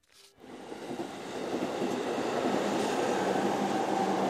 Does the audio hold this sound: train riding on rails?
yes